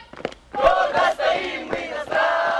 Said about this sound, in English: School children in fatigue sing a patriotic song during marching drills in the center of Suhumi.